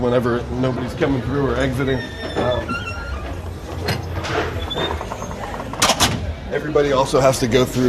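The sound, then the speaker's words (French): The door of a cannabis store in Oakland opens and shuts with a few sharp clunks and a brief squeal as a person enters, while people talk continuously in the background. “Pour chaque personne qui entre, on ouvre et on ferme la porte, par politesse, mais aussi par sécurité.”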